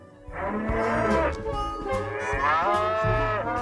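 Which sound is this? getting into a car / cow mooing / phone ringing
cow mooing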